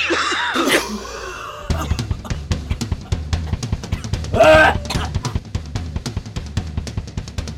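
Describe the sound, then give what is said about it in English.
A long, exaggerated coughing fit: rapid, repeated hacking coughs and wheezy, strained gasps that keep going for several seconds, loud, with a few raspier bursts midway. “Persistent marijuana use leads to the same kind of chronic lung issues. I'm talking about persistent cough.”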